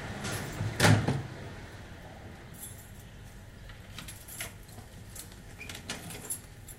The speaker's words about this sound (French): Et ce bruit de clé, on l'a en fond. Ça, c'est Ronce Sainte-Catherine.